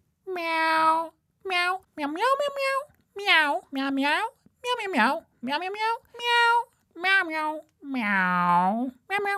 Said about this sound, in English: Now, Mr. Whiskers, how does it feel to be a cat? Meow. Well said, Mr. Whiskers.